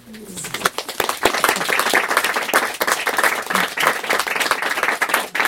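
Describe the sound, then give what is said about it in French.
An audience applauds steadily for several seconds, a dense wash of many overlapping hand claps at a fairly constant, lively volume, with no one speaking over it. “Je n'ai pas besoin d'applaudir.”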